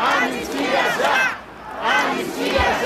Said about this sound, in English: On São Paulo's Paulista Avenue, crowds chanted Brazil's independence hymn, to free the homeland or to die for Brazil.